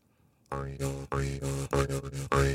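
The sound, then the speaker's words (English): A jaw harp twangs on a steady low drone, played by breathing through it in loud rhythmic pulses of about five strokes, its buzzy overtones sweeping up and down in a wah-like pattern. No talking. “It was always a jaw harp that people then mispronounced”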